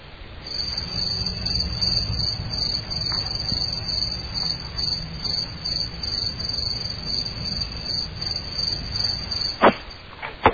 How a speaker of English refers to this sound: Hey, you know, God, I love those crickets. They always drive the idiots away.